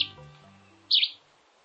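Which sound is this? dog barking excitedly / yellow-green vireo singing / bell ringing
yellow-green vireo singing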